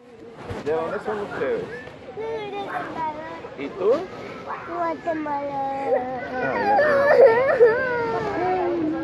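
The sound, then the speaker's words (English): Ten children aged 4 to 10 cry and sob for their parents at once, their wavering, high-pitched wails overlapping and continuing without pause, growing louder and more distressed toward the end. “10 children between the ages of 4 and 10 were crying for their parents”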